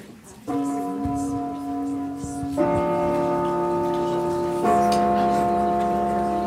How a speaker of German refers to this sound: Der Gong im Casablanca ist auch so ein kinonostalgisches Detail. Es ist ein etwa 100 Jahre altes Gerät mit drei Tasten, bei dem man per Hand jede einzelne Taste drücken muss.